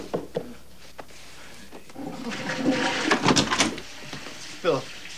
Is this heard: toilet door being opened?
yes